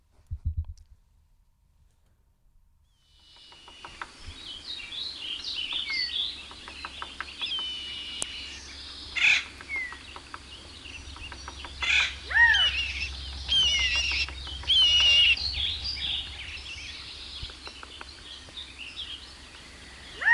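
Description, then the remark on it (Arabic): A flock of birds chirps and twitters steadily after a brief silence, with rapid flapping wings and fluttering clicks mixed in, moderately loud over a low rumbling background. “أحسنتم وإجابة موفقة يا أختنا المخرجة، يعني حطت لش طيور جاوزتي العقبة الحمد لله.”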